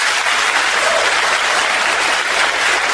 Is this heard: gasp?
no